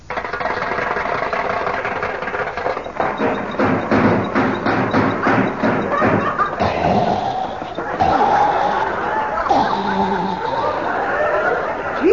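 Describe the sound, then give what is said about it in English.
A car engine is cranked and sputters unevenly, a rapid series of loud coughing chugs and thuds that stutter and rattle without settling into a steady idle. “Still has that dangerous cough.”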